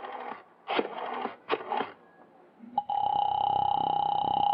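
A telephone being dialed to call a girl's father: a few short, rough clattering bursts, then a loud, steady electronic tone hums without a break until the end. No one speaks.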